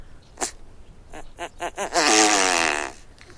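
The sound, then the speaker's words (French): A great bustard calls: one short burst, then a quick run of four clipped pulses, ending in a longer buzzy, rasping note with a strained, almost flatulent quality. No one speaks. “Là, c'est la grande outarde.”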